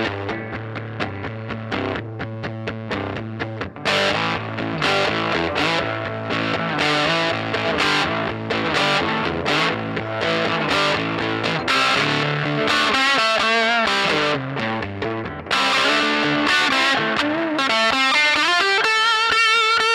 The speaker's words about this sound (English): Am I playing guitar today? What do we got going? What do we have going? This is a Les Paul custom straight into a old Fender Champ with a little bit of reverb.